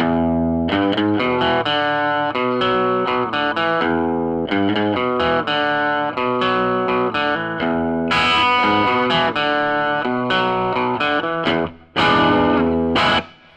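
An electric guitar plays a repeating, rhythmic riff on its bridge pickup through a distorted, effects-laden amp, loud and steady with short choppy notes and brief pauses near the end, no voices.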